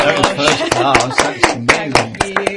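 A short burst of studio applause for a studio guest, a first class honours graduate: sharp, loud hand claps in a quick, uneven rhythm, a dozen or so distinct strikes, with murmuring voices running underneath.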